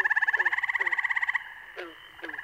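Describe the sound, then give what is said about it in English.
A dense breeding chorus of male spring peepers, tiny tree frogs: a rapid run of high, shrill pulsing calls, then a couple of sharp, bird-like peeps standing out against a softer background chorus. “These are the calls of tiny tree frogs, the spring peepers.”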